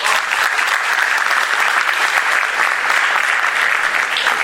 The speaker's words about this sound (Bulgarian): Моля аплодисменти.